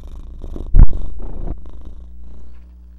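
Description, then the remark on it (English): A male domestic cat purrs, a low rumbling drone with a brief louder bump near the start, then the purring continues softly and steadily. “Could you hear him purring? He didn't feel like meowing, but he's kind of purry right now.”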